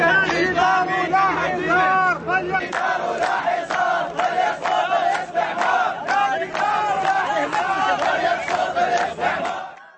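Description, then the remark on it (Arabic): Hundreds of protesters in Adhamiyah, Iraq, chant and shout together against the building of a barrier, many voices blending into a loud, steady roar with rhythmic surges that carry on without a break. “في هذه الأثناء هبط مئات المتظاهرين في العظم احتجاجا على بناء الحاجز قائلين أنه سيجعلهم سجناء في حيهم.”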